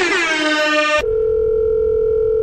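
A loud, harmonically rich buzzing tone cuts off after about a second, replaced by a steady, continuous telephone dial tone humming on with no voices.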